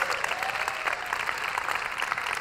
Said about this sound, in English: Come on, clap your hands today.